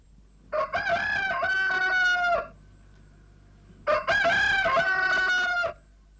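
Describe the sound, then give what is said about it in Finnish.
A rooster crows twice, loud, each call a long drawn-out cock-a-doodle-doo, with a short quiet pause between them and no voices. “Kukon laulusta on jo kaksi tiimaa.”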